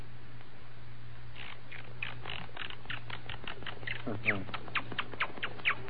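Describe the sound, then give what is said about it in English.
A person imitates a monkey with a rapid run of short, sharp chattering calls that grow louder and more excited, over a steady low hum. “Now a monkey.”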